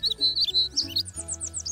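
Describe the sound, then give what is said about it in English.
A baby bird chirps rapidly in a continuous run of high, thin tweets over a soft, steady low musical hum, with no talking. “Bye, baby bird.”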